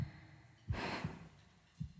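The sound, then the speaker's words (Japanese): A few soft, muffled low thumps like a heartbeat, irregularly spaced, with a faint airy breath sweeping over the first beats; quiet overall, no talking. “君は私の中にいてドキドキしてる証拠。”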